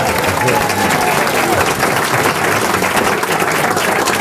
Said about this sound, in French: Non, j'aime pas quand on m'applaudit.